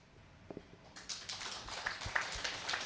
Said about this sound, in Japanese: では拍手をお送りください。